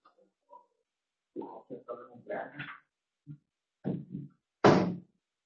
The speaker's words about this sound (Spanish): ¿Puedes cerrar la puerta?